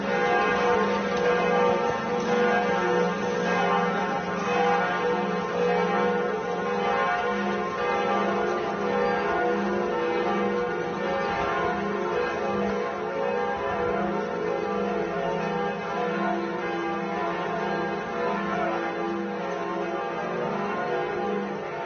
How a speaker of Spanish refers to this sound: Volvemos y escuchamos las campanadas que se dieron esta mañana en París, en la Catedral de Notre Dame, con el anuncio del fallecimiento del Papa.